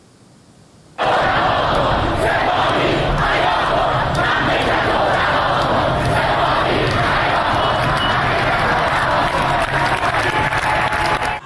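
A large crowd of students and protesters roars and shouts slogans together against the Revolutionary Guards in front of Amirkabir University in Tehran, continuously, a dense, loud wall of collective yelling that starts abruptly after a second of quiet and holds steady throughout.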